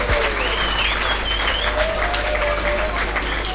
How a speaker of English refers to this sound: There's only three people here, it sounds like, on the microphone. So how many is there here? Let's have a big hand. Yay!